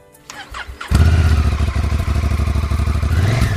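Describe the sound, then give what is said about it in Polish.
A priest's motorcycle engine cranks and fires up, then settles into a loud, steady, throbbing idle with a rapid pulsing rhythm. No one speaks. “To, że ksiądz lubi motor, jest takim zapaleńcem, zauważyłem na wejściu, bo mimo że pada deszcz, mimo że jest śnieg, to ksiądz na wywiad podjechał tym motorem.”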